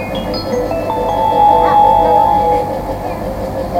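A four-car, three-door Ryomo Line through train bound for Takasaki rolls into platform 2 of a Japanese station, its steady low rumble joined by a sustained metallic squeal that swells in the middle and then eases off.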